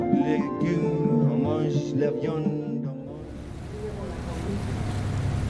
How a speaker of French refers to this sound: C'est un jour d'été pluvieux à Bruxelles. Je monte à bord avec quelques courageux d'un petit bateau de la fonderie sur le canal. C'est une visite guidée un peu particulière, loin des bateaux mouches parisiens.